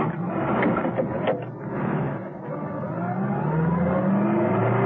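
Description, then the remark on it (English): A car engine turns over and roars as the car is started and driven quickly away down a driveway, its pitch climbing steadily as it accelerates. The sound is loud, with no voices. “Steed made it to the other side of the car, ducked into it, started it up, and drove as quickly as he could down the driveway.”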